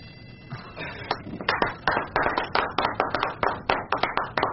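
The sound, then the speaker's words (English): Applause builds into steady, rhythmic clapping from a small group, with sharp, distinct claps at a brisk regular pace, clear, with no talking over it. “Perhaps you would applaud.”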